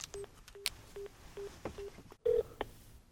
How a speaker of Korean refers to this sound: 시간 지금 좀 어기고 이러는데 그러면은 전화 연결을 해서 양동근 씨에 대해서 한번 제가 물어보겠습니다.